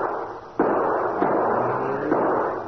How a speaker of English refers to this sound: You can hold your fire, Moran. No use wasting cartridges.